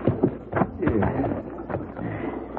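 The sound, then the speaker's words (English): Horse hooves clip-clop in an uneven, ambling rhythm as riders head for a ranch, with a soft rumble of wind or movement and faint, indistinct voice-like sounds underneath. “Sure gonna feel good to get off this horse.”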